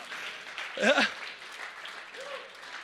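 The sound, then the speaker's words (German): A church audience claps together in a steady, dense wash of applause lasting a few seconds, applauding the declaration that Jesus is the Lord, with a brief voiced cheer or shout rising above it near the start. “Da können wir mal klatschen an der Stelle, Leute.”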